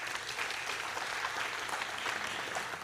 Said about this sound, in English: Clap or say hello to these guys or something.